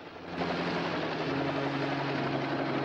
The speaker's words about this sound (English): Gomez flies the helicopter lower still.